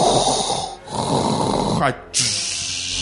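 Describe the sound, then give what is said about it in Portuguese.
A voice imitates a mechanical respirator: two long, loud, hissing breath cycles, a raspy inhale and exhale separated by a brief pause, with a rough, throaty texture and no spoken words. “A única coisa que você escuta é o respirador dele.”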